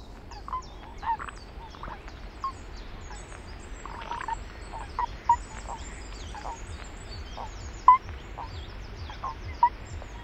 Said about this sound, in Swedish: Ska vi lyssna på paddan också då?